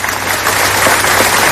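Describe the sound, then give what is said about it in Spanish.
A crowd in Toledo applauds at midday, ending a minute's silence held after the killing of an 11-year-old boy in Mocejón; a dense, continuous wash of many hands clapping at an even, fairly loud level throughout, with no voices heard. “Con este aplauso se ha roto el minuto de silencio que se ha guardado a mediodía en Toledo tras el asesinato en Mocejón de un niño de solo 11 años, una localidad que sigue en shock por lo ocurrido.”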